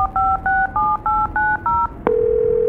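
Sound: cell phone dialing tones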